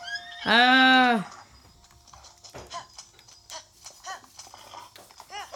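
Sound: horse hooves clip-clopping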